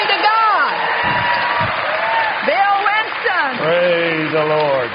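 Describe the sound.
An audience applauds steadily for a preached message while several voices whoop and cheer with rising, sliding cries over the continuous clapping, loud and lively throughout.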